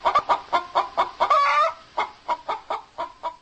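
Hens cluck in a henhouse in a quick, steady series of short bursts, broken once by a longer drawn-out squawk, with no voices present.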